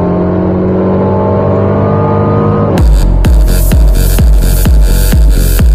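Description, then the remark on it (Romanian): A Mercedes CLA car engine hums steadily at first, then bursts into a loud, aggressive sport-tuned revving with a rapid pulsing burble from its sport engine sound option, with no one speaking. “Și așa, ca cireașa de pe tort, CLA-ul avea și opțiunea sunet sport motor, ca tu, în calitate de șofer de Mercedes CLA, să te răsfeți la interior și din acest punct de vedere.”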